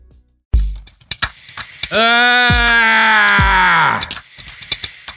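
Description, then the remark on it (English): A short burst of noisy, nose-blowing-like sound and a few clicks give way to a loud, sustained yell lasting about two seconds. The yell is harsh and tonal, with a couple of thumps underneath, then tapers off. “Cut me blowing my nose, but keep the yell.”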